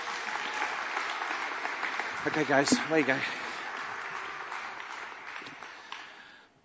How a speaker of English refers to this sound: Can we give these three a round of applause, please?